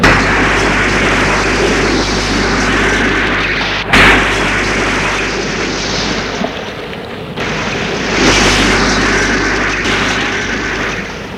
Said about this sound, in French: Que la voiture a explosé.